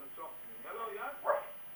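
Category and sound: animal, dog barking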